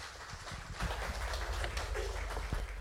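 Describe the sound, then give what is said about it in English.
A crowd claps steadily, a dense, fairly soft wash of many hands with a low rumble underneath and no voices, as an audience applauds a speaker coming up to give a morning message. “a round of applause as he comes up to give us a message this morning.”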